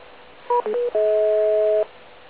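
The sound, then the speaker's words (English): A quick sequence of three short touch-tone beeps followed by one long, steady dual-pitched DTMF tone lasting nearly a second, sent to make a radio repeater reset properly; clear and alone with no talking. “By the way, all of those tones, Bob, are to make sure that the machine does properly reset.”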